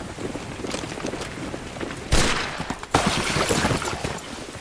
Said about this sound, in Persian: نمیدونستم حجم بارون میتونه انقدر زیاد باشه.